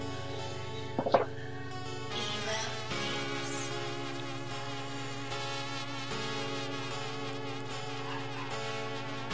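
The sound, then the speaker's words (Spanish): A wasp buzzes steadily and continuously, a droning, harmonic hum that stays fairly even in loudness, with a brief sharper flutter near the start and no talking. “Ahí nos avispas.”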